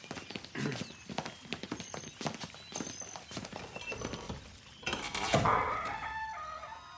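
Horse hooves clip-clop in an uneven series of sharp knocks for several seconds, then a loud, harmonic rooster crow takes over near the end. No one speaks.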